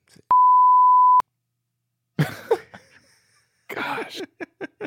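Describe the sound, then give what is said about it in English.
A single loud, steady censor bleep over a spoken name, lasting about a second, cuts in sharply and stops abruptly, followed after a pause by voices and a burst of laughter-like sounds. “I gotta go back and bleep out some names, but that's okay.”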